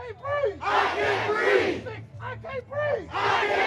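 A protest crowd in Minneapolis, at the site where George Floyd was killed, with a man rallying it by megaphone, shouts in loud, overlapping bursts, rising into sustained roars that swell and break off, with a brief lull before the chanting surges again.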